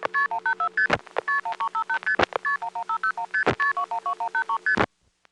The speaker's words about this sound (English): By dialing 7586 plus 3 to 6 digits, of course making use of extra digits when necessary, it's possible to hear any 3 to 6 digit number MF'd.